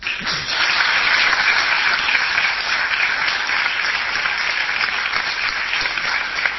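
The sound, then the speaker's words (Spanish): A crowd applauds steadily for several seconds as a demonstration of what applause is, a dense, even wash of many hands clapping at once with no break and no voices standing out. “Esto por si alguien no sabía lo que era un aplauso, está bien, sí, ilustrado.”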